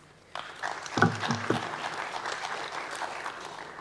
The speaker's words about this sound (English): So please clap.